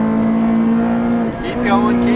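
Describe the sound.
A Ferrari engine screams at high revs under full acceleration out of a corner in a loud, sustained buzzing wail, dips briefly as if shifting gear, then climbs again, while a voice exclaims over it.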